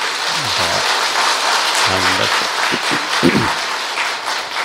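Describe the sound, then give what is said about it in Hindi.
A crowd applauds loudly and steadily for several seconds, a dense rushing patter of many hands clapping, with a few voices calling out and cheering underneath. “समझ में बहुत अच्छा लगा, क्या बात है, जोर से ताली बजाइए।”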